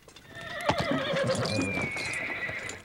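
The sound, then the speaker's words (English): A horse lets out a loud whinny that stretches into a long, wavering neigh, while a few sharp hoof clops sound near the start. No one speaks. “picks up his saddle pack, and wanders back to his horse.”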